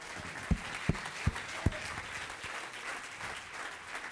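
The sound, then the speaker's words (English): A church audience applauds single mothers, clapping together in a steady, dense wash of applause that fills the room, with a few sharper, louder claps standing out near the start before the clapping settles into an even patter. “Now, let me preface this by saying, if you're a single mom, we applaud you for bringing your house to the house of God.”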